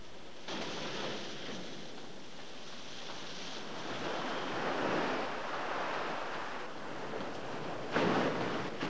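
ocean waves and surf

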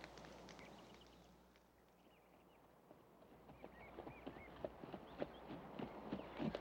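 horse hooves clip-clopping

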